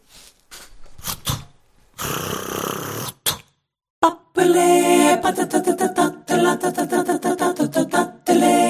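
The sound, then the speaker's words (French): The 20th Century Fox lion roars loudly in several rough, rumbling bursts, the growls repeating in a steady rhythm like the fanfare opening of a film. “Le lion de la 20e Century Fox ouvre pour l'immortel Panthère Rose.”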